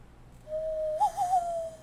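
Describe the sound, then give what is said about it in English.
A single sustained hand-blown bird call, a hollow owl-like hoot with a slight warble midway, lasting over a second, fairly clear, with breathy air around it, made by a person blowing into their hands. “I can do the bird call in the hand.”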